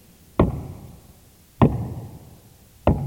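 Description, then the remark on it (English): Three heavy, evenly spaced knocks on a wooden door by a policeman, each a solid thud with a short resonant decay, about a second apart, loud with no voices. “Then came a knock at the door.”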